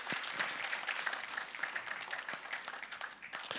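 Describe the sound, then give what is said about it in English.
A crowd applauds a man steadily for the whole stretch, a dense wash of many hands clapping at once with sharper individual claps popping through, holding at an even, moderate loudness without any voices. “Give him a hand, yeah.”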